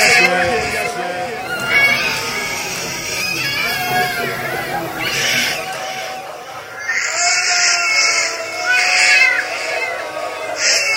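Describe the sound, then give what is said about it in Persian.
A young baby cries in wavering, high-pitched wails that rise and fall in repeated bursts, fairly loud throughout, with other voices mixed in underneath. “این صدای گریشه.”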